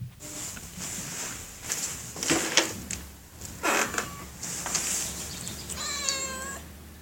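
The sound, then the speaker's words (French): A cat lets out a short meow near the end, after several seconds of soft scuffling, rustling noises and a steady low background hum. No one speaks. “Ici, on ne miaule pas, enfin presque.”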